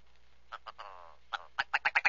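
A willow ptarmigan calls alone with a string of harsh, nasal clucks, starting with a few spaced notes and a drawn-out rattle, then a rapid, accelerating series of loud barking calls.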